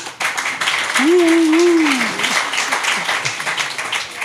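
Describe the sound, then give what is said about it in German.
At a tattoo festival, a crowd applauds a man being called up onto the stage, with dense, steady clapping across the whole clip, loud and sustained, while a single voice briefly calls out over it in a held, wavering tone. “Mit einem kleinen Applaus.”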